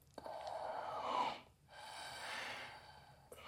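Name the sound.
gasping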